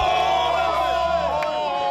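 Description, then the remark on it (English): A group of voices cheers together for a Titans win in one loud, sustained roar of overlapping shouts and whoops, dense and continuous for the full two seconds with no speech. “Let's go out with a cheer.”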